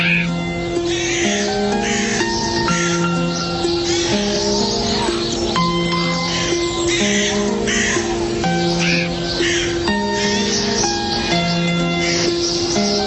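Harsh, crow-like bird calls caw again and again throughout, loud, layered over a steady droning tonal background with no pauses.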